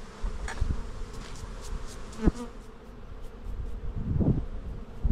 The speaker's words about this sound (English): I just use the brush to get as many bees off as I can before I plonk it in.